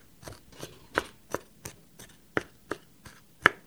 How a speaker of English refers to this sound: I'm chopping the garlic.